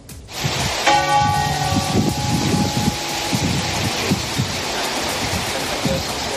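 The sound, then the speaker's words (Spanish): Church bells of the main churches of London peal outdoors during a tribute to the queen, a bright ringing strike that lingers and fades over a few seconds, set against a steady wash of rain-like noise and low rumbling. “He estado recogiendo testimonios por las calles de Londres y curiosamente ha coincidido ese momento con un repique de campanas de las iglesias principales de esta ciudad.”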